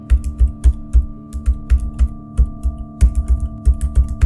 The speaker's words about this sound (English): The guard's footsteps were no longer audible, and dead silence reigned in the building, broken only by the sound of her keyboard.